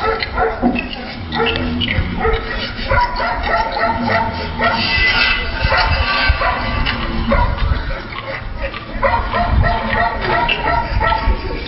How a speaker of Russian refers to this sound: При входе в тюремный замок посетителей встречает вертухай на вышке, а дополнительную атмосферу создает вой сирены, лай собак, звучащий из динамиков.